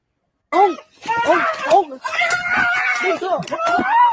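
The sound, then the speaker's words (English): A man lets out a loud, strained scream that rises and falls in pitch for several seconds, alone, with no words. “Yeah, that scream.”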